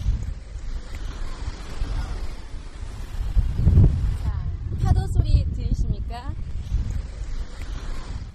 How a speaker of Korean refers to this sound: 바람 소리와 섞여 있는 이 파도 소리. 노스캐롤라이나 주에 있는 아우터 뱅크스라는 바닷가에서 들려드리는 파도 소리입니다. 아, 좋네요. 파도 소리에 바람 소리까지 뭐 해변 분위기 제대로 가져오셨는데요.